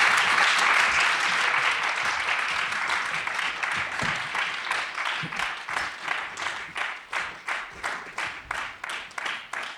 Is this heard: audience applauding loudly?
yes